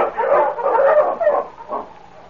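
A sled dog barks in a quick run of loud, yelping barks, pauses briefly, then lets out one more softer bark. No one speaks.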